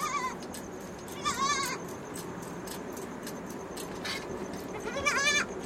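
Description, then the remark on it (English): A fully grown goat named Rani bleats in Suzu's hut several times in wavering, harmonic cries, with three clear calls spaced over a few seconds, fairly loud against a steady background hum. “And she set off the goat in Suzu's hut.”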